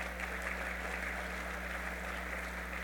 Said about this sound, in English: And of course, all of the lovely ladies that are in the audience with us today, please give yourselves a round of applause.